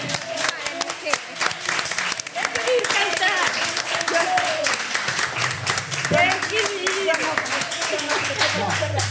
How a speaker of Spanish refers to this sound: Venga, le vamos a dar un aplauso para que se anime.